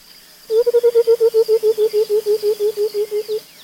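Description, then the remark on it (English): A white-browed coucal gives a long, even series of about twenty hollow, bubbling hoots at a steady rhythm, like liquid glugging from a bottle, holding the same low pitch and loudness throughout. “This call, likened to the sound of water running out of a bottle, is common in many parts of Africa.”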